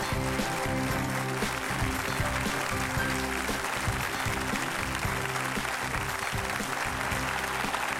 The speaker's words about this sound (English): And you know, the way you welcome, the way y'all are clapping and welcoming, it really just make us feel welcome and it really encourages us.